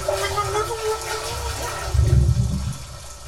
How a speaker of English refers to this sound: Oh, there's water filling.